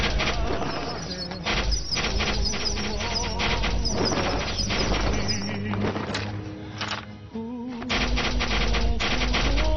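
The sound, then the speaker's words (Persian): A loud, dense volley of arrows loosed by a group of archers on command, with rapid overlapping snaps and whizzing impacts that keep coming in a continuous clattering barrage, briefly thinning before surging again. “تیر اندازی کنین.”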